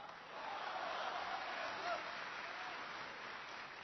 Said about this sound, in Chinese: 谢谢大家伙的掌声鼓励。